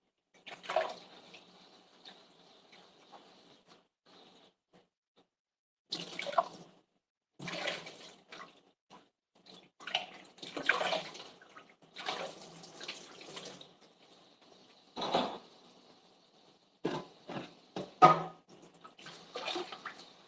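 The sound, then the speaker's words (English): Tap water runs into a sink in uneven bursts, broken by clinks and splashes of the previous day's dishes being rinsed and moved around by someone wearing light pink dishwashing gloves and using a fish-shaped sponge, with no voices. “Can you hear the gentle running of the water as I'm wearing light pink, like a very springy shade of pink, dishwashing gloves, and I have a sponge that is shaped like a fish.”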